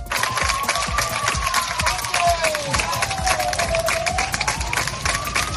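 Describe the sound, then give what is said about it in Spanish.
Local residents applaud the Spanish Military Emergencies Unit (UME) as it leaves after four days fighting a wildfire in Montichelvo, Valencia: dense, continuous clapping, punctuated by a few sharper claps and a faint background tone, loud and sustained throughout. “Así, entre aplausos, han despedido a la UME los vecinos de la zona.”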